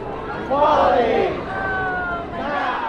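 Hundreds of demonstrators at the courthouse in San Francisco chant in unison, protesting the court ruling upholding Proposition 8, the state's same-sex marriage ban; loud shouted phrases such as "Equality! Now!" rise and fall over a steady wash of crowd noise, with a second chant swelling near the end.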